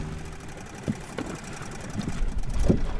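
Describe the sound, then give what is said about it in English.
A small motorboat crosses a river toward a fish wheel, its engine chugging in a low, steady rumble with a few scattered knocks and splashes, growing slightly louder toward the end. No one speaks. “Barb climbs out of her boat onto a wooden raft anchored a dozen feet from shore.”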